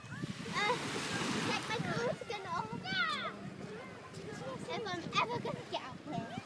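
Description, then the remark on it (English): Voices talk on a beach over a steady rushing wash of cold sea surf, with waves breaking and hissing up the shore in the background throughout. “Here we are, on the beach.”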